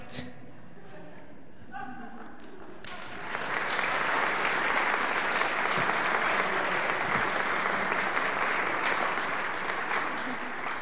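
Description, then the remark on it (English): Sustained applause from an audience after a short acted performance, rising after a few seconds of faint voices and continuing steadily and loudly to the end. “Another round of applause for our”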